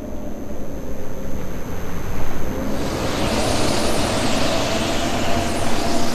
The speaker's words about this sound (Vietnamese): Đó là những gì chúng ta có, thế giới tự nhiên của biển Bắc. Ngoài một chi tiết nhỏ, đó là một cơn bão đáng sợ.